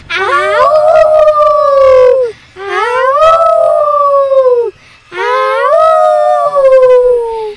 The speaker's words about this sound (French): Dans la forêt sombre et profonde, des hurlements déchirent la nuit.